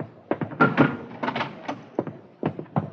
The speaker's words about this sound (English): I'll open the door before they burst in.